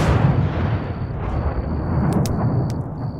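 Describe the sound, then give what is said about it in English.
A loud, deep explosion rumble roars continuously, heavy, with a few sharp crackling snaps near the end and a thin high-pitched whine running underneath; an explosion at night followed by roaring flames. “We managed to drag the guard who had returned to bleary semi-consciousness a safe distance away before the explosion lit up the night.”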